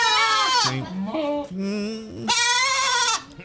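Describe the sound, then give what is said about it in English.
A person mimics a goat with two loud, wavering bleats, the first falling into a low quavering tail before a second strained, nasal cry; no other talk. “The goat is not an easy animal to imitate.”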